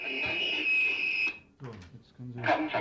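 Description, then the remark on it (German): A shrill, piercing emergency whistle blares steadily from loudspeakers on the radio emergency frequency, signalling an aircraft crash emergency at Jagdgeschwader Richthofen in Wittmund, East Frisia, for over a second, then cuts off and voices begin talking. “Schrilles, markerschütterndes Pfeifen aus den Lautsprechern machte auf den Notfall aufmerksam.”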